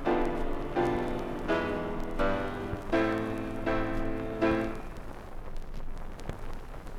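An orchestra plays a series of sustained, stepping chords while an audience claps along underneath, the dense clapping continuing steadily after the music stops.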